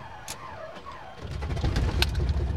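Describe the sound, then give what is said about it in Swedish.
Birds chirp softly, then a small airplane engine catches and settles into a steady low rumble that fills the rest of the moment, with sharp clicks and rattles over it. “Där gick motorn igång.”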